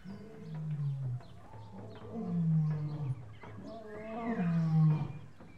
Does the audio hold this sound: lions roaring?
yes